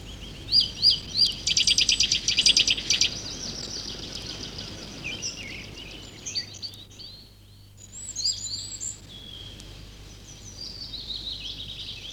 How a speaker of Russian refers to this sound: это крик поползня.